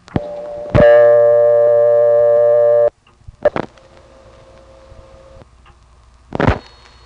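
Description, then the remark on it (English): N1 carrier telephone trunk tones, including tones at 3700 and 4200, without a howl: a sharp click opens a loud, steady buzzy tone lasting about two seconds, followed by further clicks and a quieter sustained hum on the line. “This has the classic N1 family sound. It even has the tones at 3700 and 4200.”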